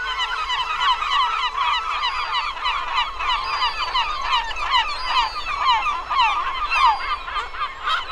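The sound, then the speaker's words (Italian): A large flock of seagulls screeches and squawks nonstop, dozens of overlapping harsh calls forming a dense, steady clamor that stays loud throughout, with no voices. “Quando si mosse, dalla turba si levò un gran clamore di strida e gracchiamenti.”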